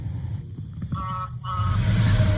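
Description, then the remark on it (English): A semi truck rumbles past on the road, its low engine roar swelling toward the end, with a couple of brief tonal whines over steady traffic noise and no voices. “Semi drove by.”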